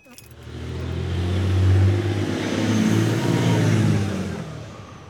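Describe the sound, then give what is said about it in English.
A car engine drones low and steady while driving downtown, swelling as it accelerates, with a deep humming rumble and broad road noise that rises and holds for several seconds. “So curious that I'm going to take a pause here, drive downtown, and ask people on the streets what they'd do.”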